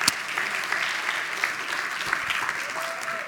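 Sustained applause from a large audience at Avalon Church, a dense steady wash of clapping with a few louder claps standing out, no talking over it.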